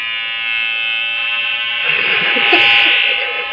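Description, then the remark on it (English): A loud, steady electronic buzzing from bee and fly toys, given as birthday presents, runs for the whole stretch, swelling slightly near the end amid faint handling noise. “They're related birthday presents. Look. Bee. Fly.”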